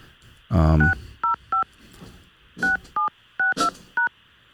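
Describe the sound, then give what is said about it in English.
A phone number being dialed on a phone: about eight short touch-tone keypad beeps at uneven intervals, clear, with a brief loud burst of voice near the start. “What I'm going to do now is I'm going to give him one more shot. I think he has something fixed now on his phone.”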